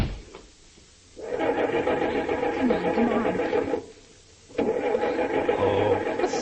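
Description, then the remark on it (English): A car engine turns over and roars to life in two loud bursts separated by a brief pause, the harmonic motor noise sustained and rough, with no voices. “Hey, he got in that car.”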